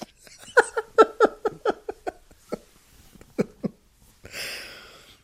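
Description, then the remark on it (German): A quick fit of short, sharp coughs bursts out in rapid succession, followed by a couple of isolated coughs and a final breathy, hissing exhale, fairly loud with no talking. “Ich habe Wurst jetzt in der Nase. Mein Husten gerade.”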